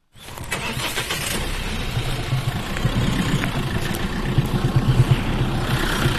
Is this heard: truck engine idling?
yes